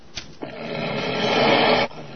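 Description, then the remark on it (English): A Doberman bares its fangs and lets out a low, rasping growl that swells steadily for over a second before cutting off abruptly, preceded by two short soft clicks. No one speaks. “The dog bares its fangs.”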